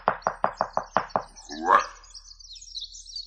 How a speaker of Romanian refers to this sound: Zădarnic, bați! Mai întâi pentru că eu mă aflu de partea asta ușii, lângă tine, și în al doilea rând pentru că cei dinăuntru fac o gălăgie strașnică și nu te pot auzi.